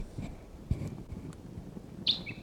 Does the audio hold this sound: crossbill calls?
yes